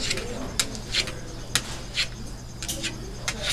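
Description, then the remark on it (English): A big Argus monitor lizard at the East Bay Vivarium scratches at the corner of its cage in short, irregular, hissing scrapes, six or seven bursts spaced unevenly over a steady low hum, with no talking. “And you can hear one of our big monitors scratching at the corner of his cage.”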